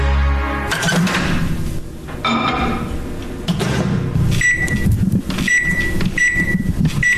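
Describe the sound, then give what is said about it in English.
A microwave oven heating a coffee cup for a minute 30 hums steadily with a low rumble and rattles, then gives three or four short, bright electronic beeps near the end. The sound is fairly loud, with no talking. “When you put your coffee cup in the microwave to make it hotter for a minute 30, not a minute, it's a minute 30.”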